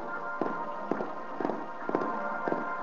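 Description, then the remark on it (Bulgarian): Horse hooves beat in a steady, repeating rhythm, roughly two quick strikes every half second, at moderate loudness over a faint constant background hum, with no voices. “Чуй копитата на коня. Как препуска.”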